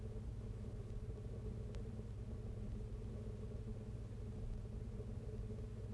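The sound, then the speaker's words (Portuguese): A steady, low engine rumble fills the interior of a moving bus approaching a stop at the Museu Nacional de Arte Antiga, constant and fairly loud throughout, with a faint brief tick near the middle and no speech. “É bastante agradável andar de autocarro.”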